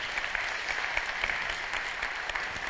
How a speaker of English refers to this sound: Praise the Lord. Amen. Clap offering. Yeah, amen.